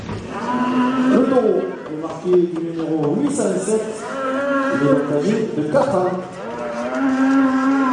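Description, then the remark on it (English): A black bull bellows in long, drawn-out lowing moans that rise and fall in pitch, loud and nearly continuous for several seconds over a busy background, as it enters the bullring in Vauvert for a course camarguaise, or bull running. “Here he is. Here's the black bull.”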